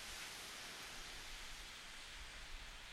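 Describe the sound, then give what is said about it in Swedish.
A steady, hissing roar of ocean waves washing on a beach, continuous and even with no distinct breaks between swells, heard alone without any voices. “Och jag vill att du börjar med att lyssna på vågorna och de ljuden som är omkring.”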